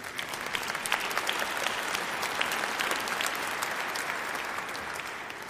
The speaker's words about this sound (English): Yes, you may clap if you agree.